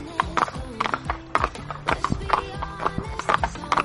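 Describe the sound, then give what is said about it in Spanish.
Horse hooves clip-clop in a steady, repeating rhythm during a trail ride, the sharp knocks landing roughly every half second, with voices talking faintly in the background. “tenéis que tirar de la rienda de la izquierda y dale con los talones para que siga, ¿vale?”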